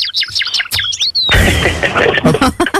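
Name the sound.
bird chirping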